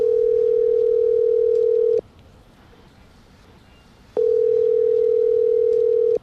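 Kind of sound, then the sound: signal or alarm, telephone call ringing tone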